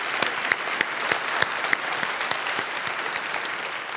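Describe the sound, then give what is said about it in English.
An audience applauds steadily for a person recently granted asylum in the U.S., a dense wash of clapping with a few sharper individual claps standing out, sustained at an even level for several seconds with no talking. “You can clap for that.”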